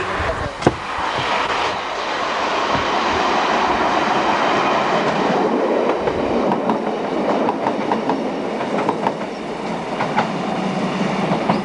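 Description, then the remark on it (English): A train rolls past on the rails, steady and fairly loud for the whole stretch, with rhythmic clacking of wheels over track joints and occasional sharp clicks. “I spotted a train.”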